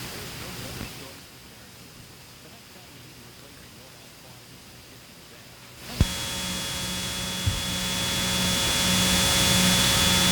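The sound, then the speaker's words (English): A steady hiss gives way to a sudden, loud jet engine roar with a high whining tone from a variable sweep-wing supersonic fighter, growing gradually louder as the engine runs up. “It is a variable sweep-wing supersonic fighter with a speed exceeding Mach 2, or two times the speed of sound.”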